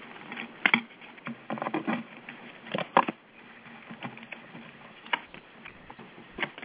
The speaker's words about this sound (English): I'm going to shuffle them really well, and then I'm going to take three from the middle, and I will answer your question.